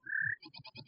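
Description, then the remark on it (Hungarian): A blackbird call imitated by a mechanical bird-call device: one sustained whistled note, then a quick run of four or five buzzy, chattering pulses, fairly loud, with no talking. “Fekete-rigó”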